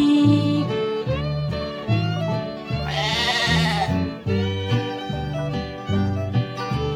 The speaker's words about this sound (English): Fee deedle dee deedle dee dee dee, the sheep is talking to me.